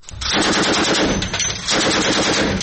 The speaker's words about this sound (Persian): تیراندازی ناوهای ایران، چین و روسیه به سمت اهداف دریایی، بخشی از رزمایش مرکب کمربند امنیت دریایی 2022 در اقیانوس هند. رزمایشی مشترک با حضور ناوشکن‌هایی از روسیه و چین و نیروی دریایی ارتش ایران و سپاه پاسداران.